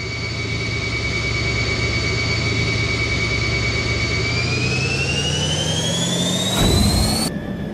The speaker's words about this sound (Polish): Ruszamy. Odpalam silnik.